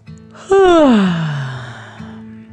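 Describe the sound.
A voice imitates a dragon's big, drawn-out yawn that starts loud and high, then slides down into a long, breathy, falling groan lasting about two seconds, with no other sounds.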